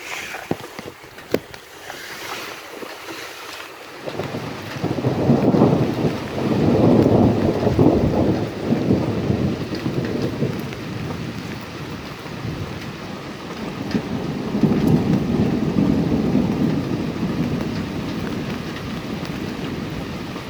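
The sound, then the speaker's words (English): Steady rain hisses throughout while two long, deep rolls of thunder rumble through, the first building after a few seconds and a second, softer one later. “Mostly just rain now.”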